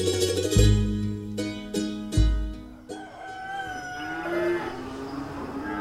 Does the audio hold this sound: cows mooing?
yes